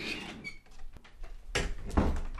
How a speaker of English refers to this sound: That's an old door.